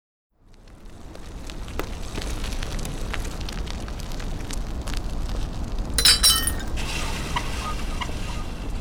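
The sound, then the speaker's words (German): Glass shatters against a steady, rough rumbling background, with scattered small sharp clinks and one brighter, louder crash of breaking glass partway through; glass shards cause a flat tyre. No one speaks. “So ein Mist. Platten. Blöde Glasscherben.”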